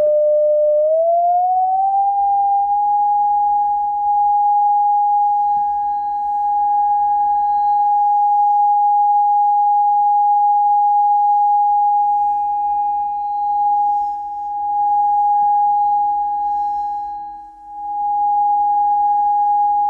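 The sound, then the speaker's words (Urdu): Two loudspeakers play tones of different frequencies in a physics demonstration of sound interference, the frequency being raised; they blend into one loud, steady electronic hum that glides up in pitch early on, then holds, swelling and briefly dipping in volume near the end. No talking. “تو اب دونوں لاؤڈ سپیکرز میں کنیکٹ کروں گا. لیکن فریکوینسی اب میں مختلف رکھتا ہوں, یہ دیکھیں بڑھاتا ہوں.”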